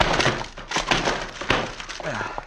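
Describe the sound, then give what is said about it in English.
A locked wooden door is smashed in: several heavy, loud blows land at uneven intervals, each followed by cracking and splintering wood, with a short creaking groan near the end. “Door's locked. I'll bust it in.”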